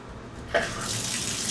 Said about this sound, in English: I'm going to take a shower. So first, I turn on the fan, the overhead fan. There you go. I get in the shower here.